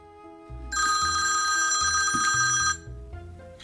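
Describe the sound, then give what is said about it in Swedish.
An outgoing telephone call's ringing tone sounds once in a single loud, bright, trilling burst lasting about two seconds, over a low, steady musical bed, with no talking. “Och nu ringer jag upp honom 10 år senare för att just höra med honom vad som egentligen hände den gången.”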